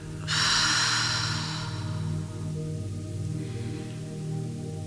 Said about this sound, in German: Nehmen einen tiefen Atemzug. Atmen tief aus.